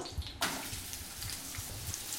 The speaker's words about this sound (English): So we've got hot pan. Is that hot enough? We're good to go. Okay, it sounds like it's bubbling up. We've got all those sliced onions. In they go.